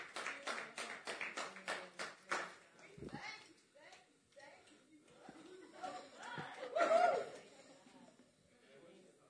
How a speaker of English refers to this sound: just take a moment and give them an applause.